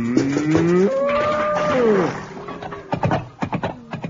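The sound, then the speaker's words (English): A cow lets out one long, loud moo that swells in pitch and then sags down before fading, followed by a few sharp clattering knocks as the cow kicks the bucket. “All right, I finish up with a cow.”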